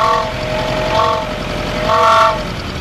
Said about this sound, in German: Für all diese Gravelpisten, die also nur aus Sand und Schlaglöchern bestanden und in den Ortschaften dann Hühner und Katzen und Hunde von der Landstraße zu scheuchen, hat er die Auspuffsirene erfunden.